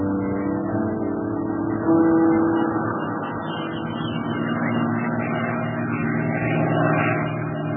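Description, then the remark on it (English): A Japanese scouting plane's propeller engine drones steadily overhead, a layered harmonic hum that swells slightly partway through and holds a constant, throbbing tone with no voices. “Here comes that Jap scouting plane again.”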